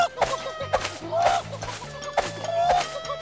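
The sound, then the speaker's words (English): A man's voice imitates a chicken while running around a car yard flapping his arms, wearing nothing but a nappy, letting out a rapid series of clucks and squawking bursts, fairly loud over a low background hum. “And look, now I'm running around the car yard flapping my arms pretending to be a chicken.”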